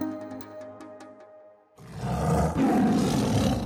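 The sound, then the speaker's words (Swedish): A deep, rumbling animal roar bursts in suddenly after a quieter, tonal opening, then swells and holds loud and rough for about two seconds, with a reverberant, echoing quality, echoing through the forests of the Kumaon region in northeastern India. “Ett vrål ekar mellan skogarna som växer över Kumaon-regionen i nordöstra Indien och skär genom stillheten som ett åsknedslag.”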